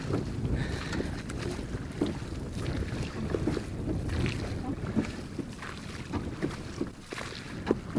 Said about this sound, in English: Well, this boat we're in is a large boat, blue in colour, and it's being rowed out by a man out to the island.